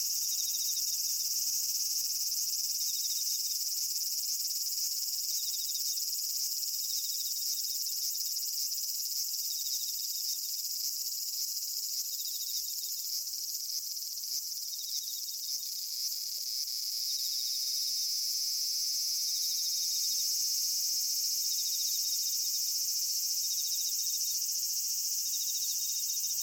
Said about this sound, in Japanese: ああ、もうセミうるさい。感想にも浸れないよ。